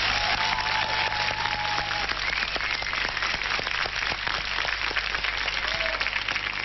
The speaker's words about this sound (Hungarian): És hogy István átérezd, milyen itt a hangulat, küldünk neked és a Híradó dolgozóinak egy nagy tapsot most!